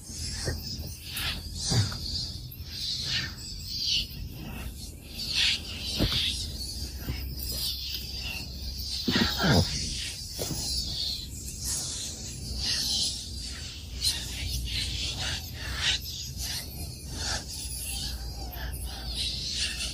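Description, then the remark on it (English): Birds sing and chirp steadily outdoors, a dense layer of high, overlapping calls with scattered sharper chirps, continuing at a moderate, even level with no talking. “I'm going to let you listen to the birds as we go into the silence.”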